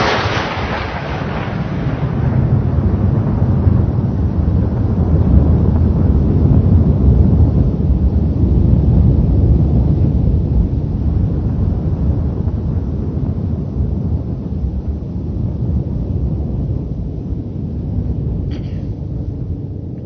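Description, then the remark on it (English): A sharp, loud crack of lightning opens into a deep, heavy thunder rumble, played in a video, that rolls on steadily for several seconds, slowly fading, with no voices. “I don't think we'll hear the lightning blast and thunder.”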